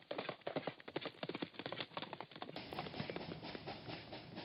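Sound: horse hooves clip-clopping away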